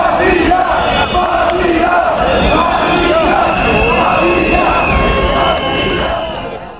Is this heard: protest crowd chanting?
yes